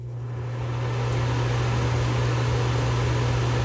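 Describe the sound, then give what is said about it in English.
A steady mechanical fan, the second of several fans being compared, whirs continuously, with a strong low hum and a broad airy rush across the highs, swelling slightly in the first second before holding constant. No voices. “It's like an engine fan.”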